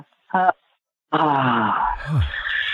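A brief voiced sound, then a long, loud, drawn-out vocal yawn, groaning and sliding downward in pitch before trailing off.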